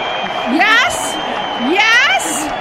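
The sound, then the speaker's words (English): A canned applause track played for guests on a live show: a steady bed of crowd noise with two loud, rising whoops of cheering about a second apart, each followed by a brief hiss of noise. “I forgot all about my corny little applause track that I force everyone to go through when they're on the show live.”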